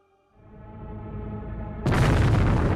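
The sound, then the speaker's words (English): A deep rumble swells for a moment, then a sudden, loud explosive blast bursts in and keeps roaring with a thick, rushing boom that rattles a valley, with no voices present. “It started with a loud explosion, one that rattled the entire valley.”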